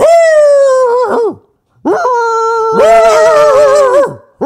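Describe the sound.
A person's voice imitates the bark of a dog named Salvador, making two loud, drawn-out, howling bark-like calls that slide down in pitch at the end, followed by the brief start of another.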